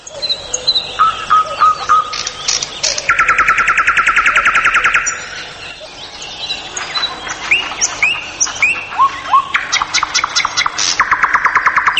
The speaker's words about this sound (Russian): То есть соловей поет для самки самые очаровательные песни, потому что уже половые гонады немножко уменьшились. Он не так торопится, не так колено скручивает, он их расцвечивает, поет более медленно, более разнообразно.